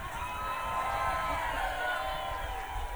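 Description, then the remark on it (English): A studio audience cheers and whoops loudly and steadily for the full three seconds, a dense wash of overlapping voices, shouts and applause-like noise with no single speaker standing out. “That's our crowd”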